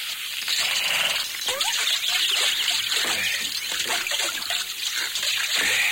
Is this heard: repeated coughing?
no